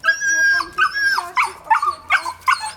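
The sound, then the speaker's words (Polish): Two small dogs whine in a long, high-pitched tone, then break into a quick series of short, sharp yips and barks, fairly loud. “Na 11 piętrze mieszkam i z dwoma pieskami schodzę.”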